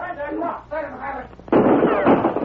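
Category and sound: sound effect, rifle gunfire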